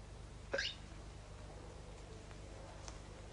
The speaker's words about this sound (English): Do you have some cigarette? Cigarettes won't help with hiccups, not in this country. Me, yes. Cigarette helped me with when I have the hiccups.